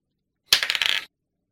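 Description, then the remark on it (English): Dice are rolled during a game for a perception check for the character Shepherd: a quick, bright clatter of small hard clicks and rattles tumbling for about half a second, then stopping abruptly. No one speaks. “Can I roll for Shepherd hearing it?”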